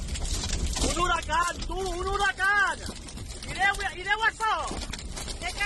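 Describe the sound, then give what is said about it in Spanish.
A tornado's steady, loud roar of wind heard from inside one of the trucks on the A7 motorway between Benifayó and Alginet, during rain, at a multiple accident with at least 10 vehicles, with people shouting and crying out in rising, wavering voices over the din. “Es el sonido desde el interior de uno de los camiones autovía A7 entre Benifayó y Alginet, un accidente múltiple con al menos 10 vehículos.”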